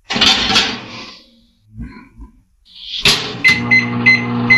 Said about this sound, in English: I always sip it before I put it in the microwave. And so, this is what I do.